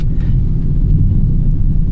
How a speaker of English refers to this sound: Can you hear the roaring thunder outside?